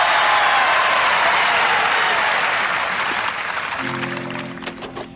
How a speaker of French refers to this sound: Au terme de cet échange, John McEnroe emporte le premier point de la partie. Dans les gradins, le public de Wimbledon applaudit.